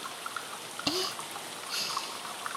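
Soft, steady rain patters over an outdoor bath, a fine hiss dotted with small drips, plus one distinct watery plop partway through. No one speaks.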